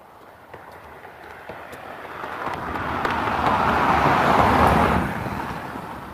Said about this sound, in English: Two whole cars right there.